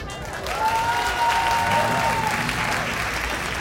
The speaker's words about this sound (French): La scène de l'Apollo était leur terrain de jeu, leur champ de bataille, où ils faisaient tournoyer leurs corps dans des figures inimaginables, sous les applaudissements et les acclamations d'un public en extase.